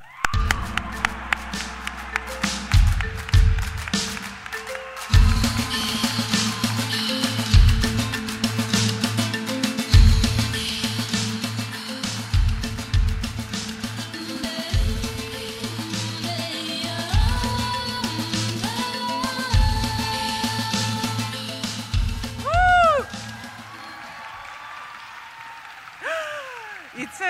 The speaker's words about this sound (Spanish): Y, por supuesto, recibamos con un fuerte aplauso, como solo nosotros sabemos recibir a nuestros visitantes, a la gran cineasta Małgorzata Szumowska.